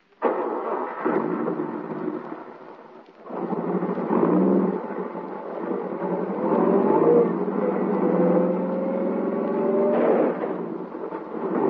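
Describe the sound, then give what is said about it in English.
A car engine labors and revs for several seconds as the car reverses on a road, its pitch climbing and surging under a low rumble, then easing off briefly before revving hard again. No voices are heard. “Back up over him. You've got to.”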